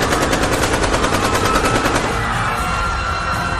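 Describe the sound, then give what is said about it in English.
A rapid burst of gunshots fired into the air on a building's fifth floor cracks out in quick succession, loud, for about two seconds before trailing into a noisy, echoing wash. “And he fires some shots in air and near footsteps to distract the guard.”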